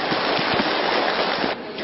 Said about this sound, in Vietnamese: Xin cho anh chàng pháo tay để ủng hộ tinh thần.